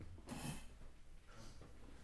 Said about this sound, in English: You just like the way it sounds, the blown nose? Leave the guy alone. Blowing his nose.